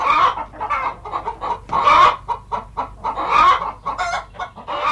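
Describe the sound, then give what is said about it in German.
Several hens cackle loudly in a henhouse, as a hen does when laying an egg, a busy overlapping stream of sharp, rhythmic clucks with bursts of louder squawking, no people talking. “Immer wenn ein Huhn ein Ei legt, dann gackert es.”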